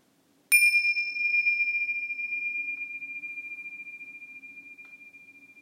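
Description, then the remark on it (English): A single meditation bell is struck once, ringing out clearly with a bright attack and a long, pure tone that slowly fades and keeps humming for several seconds, heard alone with no talking. “So at the sound of the bells, let's shift from hearing to our thoughts as our mindful awareness object.”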